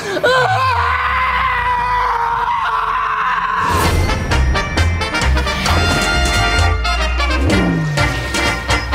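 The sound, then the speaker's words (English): A person with every bone in their hand broken lets out one long, loud, sustained scream of pain lasting a few seconds, then it cuts off as busy music with a heavy beat takes over. “I'm going to scream now because I can't hold it in, so here we go.”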